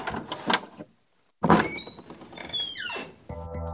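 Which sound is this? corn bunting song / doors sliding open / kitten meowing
doors sliding open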